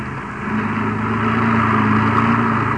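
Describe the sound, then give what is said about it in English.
A car engine hums steadily with a low, continuous drone that swells slightly as it drives around cottonwood trees, no voices present. “you better drive around the cottonwoods and have a look”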